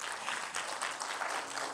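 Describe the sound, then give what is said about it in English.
A church audience claps steadily for the pastor at a Mother's Day service, a dense wash of many hands applauding together at moderate volume, sustained throughout with no voices standing out. “Let's just give Pastor one more round of applause.”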